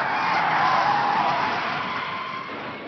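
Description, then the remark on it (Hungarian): A taxi skids hard after a sudden turn through a garden in the middle of a square, tires screeching in a sustained, loud hiss that slowly fades as it brakes to a stop in front of the Hotel de Paris. No one speaks. “A taxi egy ötletszerű fordulat után a tér közepét díszítő gyönyörű angol kerten keresztül, némi számítási hibával, de hozzávetőlegesen pontos fékezéssel megáll.”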